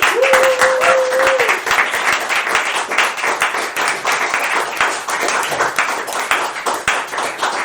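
Steady, dense audience applause, many hands clapping loudly and continuously for several seconds, with a brief tonal hum near the start and a faint voice underneath.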